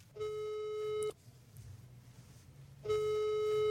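Two long, steady ringback tones sound over a phone line while calling a woman in Dalarna, Sweden, each lasting about a second, separated by a pause of quiet line hiss.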